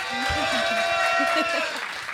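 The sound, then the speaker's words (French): A live audience at a live recording of Riversal applauds loudly and steadily for about two seconds, a dense wash of real, not canned, clapping mixed with shouting and cheering voices. “Ça, et ce n'est pas des applaudissements en boîte.”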